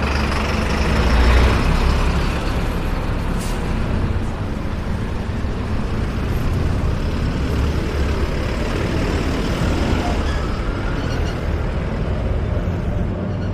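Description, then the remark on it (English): Steady roar of heavy street traffic in Mexico, with buses and other large vehicles rumbling past, a deep engine drone throughout, and a brief hiss like an air brake releasing as buses pass. “not try to get myself killed by buses.”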